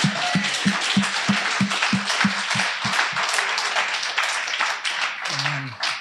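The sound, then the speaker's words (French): A crowd applauds loudly and steadily for several seconds, with a regular low thumping pulse underneath at first and a few voices rising near the end. “Oui, on peut l'applaudir.”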